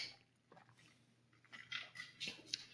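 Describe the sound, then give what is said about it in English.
A quiet sip of water: soft slurping and a few small wet clicks and swallows, with a bit of container handling, and no talking. “Hold on, I gotta take a sip of water.”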